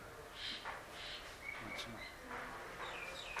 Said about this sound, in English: No, there's noise coming from somewhere. The birds.